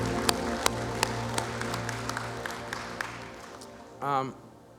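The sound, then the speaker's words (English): An audience claps to celebrate Jesus rebuilding lives, in a dense, steady wash of applause with a few sharper individual claps standing out, and a voice briefly rises over it near the end. “Hey, can we clap to celebrate Jesus rebuilding lives?”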